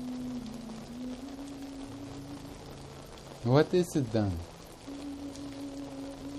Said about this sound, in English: It is this rain on the roof. That's what it is. Meditate on it.